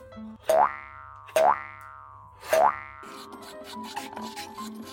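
Three ringing, springy twangs from a utensil against a container, followed by two seconds of steady rasping as homemade frozen melon ice cream is scraped out into scoops. No one speaks.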